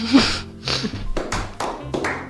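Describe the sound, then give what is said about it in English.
A few slow, sparse hand claps, about five dull smacks spaced roughly half a second apart, giving an unenthusiastic, half-hearted applause. “You get a sad clap.”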